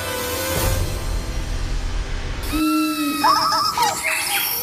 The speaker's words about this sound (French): Pour célébrer la biodiversité de la Colombie, un hymne national très spécial a été créé. Des sons d'oiseaux, une quarantaine d'espèces, des grenouilles, un jaguar et même une baleine se mêlent à la mélodie.